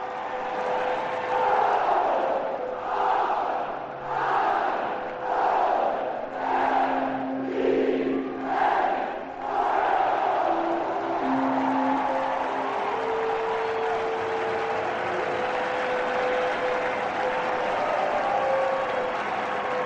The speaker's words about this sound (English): I think Rick Dempsey is going to lead them in one final Orioles cheer. It won't be the final. There'll be a few of them. He's waving the towel, and the crowd loves it.